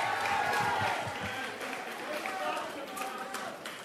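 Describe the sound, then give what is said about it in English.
An audience at an evening performance show applauds itself steadily for about four seconds, a dense wash of clapping mixed with cheering and voices, loud and sustained without any break. “Give yourselves a nice, big, long, loud round of applause because you guys deserve it too.”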